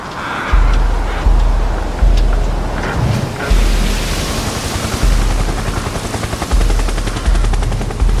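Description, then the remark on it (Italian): Helicopter rotor blades chop in a steady, heavy rhythm, loud, over a continuous broad rumble of ship engine noise, as special forces helicopters close in on a ship at sea after nautical twilight. No voices are present. “All'improvviso le acque si accendono di riflettori bianchi, pali di elicotteri sovrastano il rumore della nave, droni comandati a distanza la circondano”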